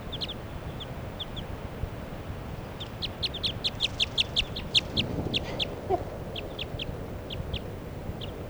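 bird, wild bird calling

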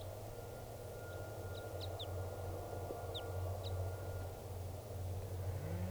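bird, type 2 crossbill calling

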